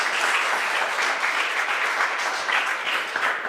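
Steady audience applause fills the whole stretch, a dense wash of many hands clapping at an even, sustained loudness with no voices over it.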